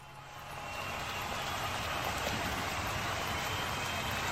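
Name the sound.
crowd cheering sound effect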